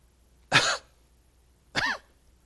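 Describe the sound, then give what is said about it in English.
Two short, raspy coughs from a child, about a second apart, clear against near silence with no talking. “A cough. A blink of an eye. A gasp of air, the soul comes into the child.”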